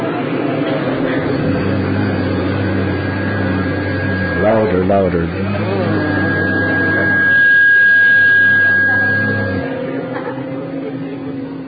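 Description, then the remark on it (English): A group of people imitate buzzing bees with a steady, low, droning hum that swells as one voice urges them louder, holding for several seconds before fading out. “First, they would hear the buzzing of the bees, and the boys would imitate the buzzing of the bees.”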